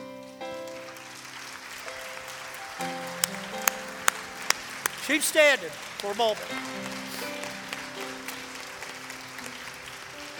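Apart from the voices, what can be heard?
audience applauding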